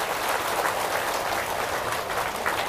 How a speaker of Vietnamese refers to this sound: Quý vị hãy dâng cao một tràng vỗ tay để tán dương.